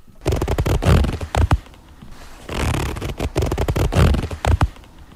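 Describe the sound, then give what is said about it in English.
Fairly loud zipper sounds on jeans: two bursts of quick, raspy back-and-forth zipping separated by a brief pause, with no talking. “It's technically a zipper on a jeans.”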